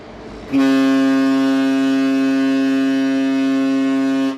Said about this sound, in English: Disco music from cruise ships isn't the only noise pollution here. International shipping traffic has also increased in Antarctica, and it's extremely loud.